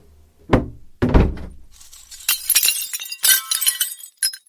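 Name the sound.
window glass being broken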